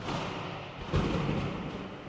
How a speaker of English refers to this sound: Thunder echoed against the canyon walls, but was drowned out by the sound of the waterfall crashing against the boulders at the base.